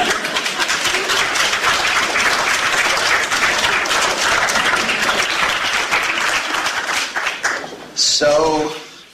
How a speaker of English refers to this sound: And that is an achievement for this movement, so you should feel free to give yourselves a round of applause. Or you can wait for the translation of what I just said.